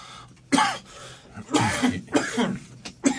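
A series of harsh coughs in quick bursts, about five or six in all, some spasmodic and clustered together, with brief quiet gaps between them.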